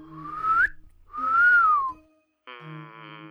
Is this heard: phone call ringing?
no